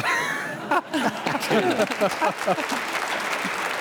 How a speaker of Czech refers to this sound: To musím zatleskat. Bravo, to musím zatleskat